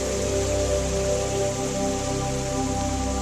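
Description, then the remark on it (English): A steady, continuous rush of pouring water like a waterfall, fairly loud and even throughout, with a soft sustained musical drone humming beneath it and no voices. “Hear the sounds of the waterfall”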